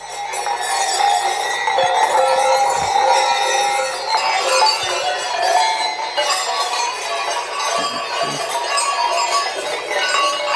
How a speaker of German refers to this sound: Sie tragen ja da unter anderem diese schweren Glocken oder Schellen.